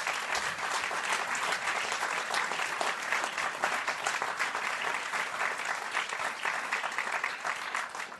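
An audience in a hall at a Saturday evening show claps for the lighting technician, steadily for several seconds: a dense, even wash of many hands with no pauses, holding at a fairly loud, constant level throughout before easing slightly at the end.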